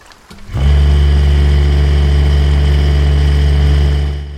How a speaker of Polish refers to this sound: podjechali ciężarówką i wysypują. Oni nie sprawdzają, kopią. Ma być w ziemi opal. Nakopią, nasypią na ciężarówkę.